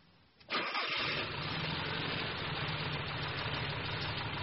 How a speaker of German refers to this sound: Sie haben einen alten Wagen. Einen alten Volkswagen.